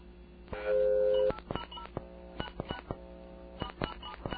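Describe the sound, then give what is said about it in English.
A telephone keypad tone rings out for under a second, then a quick, irregular run of short button presses and blips follows, fairly quiet, with no one speaking. “Oh, call it up right now?”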